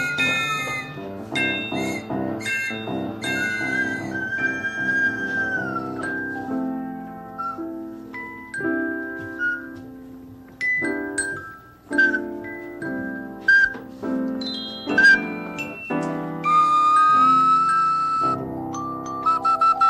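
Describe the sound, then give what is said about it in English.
A trolley whistles in a series of bright, sliding tones, punctuated by sharp bell dings, playful and fairly loud with no talking. “Oh, you've got an orchestra of your own there with your whistling and your ding.”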